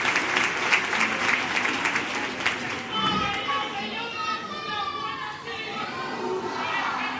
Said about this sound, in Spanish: Agradeciendo al público su aplauso.